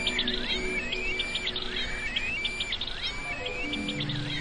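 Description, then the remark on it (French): Several birds sing and chirp continuously, their bright, overlapping calls and whistled trills repeating in quick bursts, with a soft, steady background hum underneath. “Tous les oiseaux aux couleurs chatoyantes de l'Orient vinrent leur tenir compagnie.”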